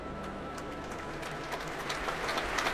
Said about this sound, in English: All that applause greets the arrival of the leader of the São Paulo Symphony Orchestra, Emanuele Baldini.